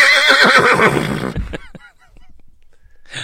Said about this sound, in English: Well, it's the new horse, Gut Chuckles!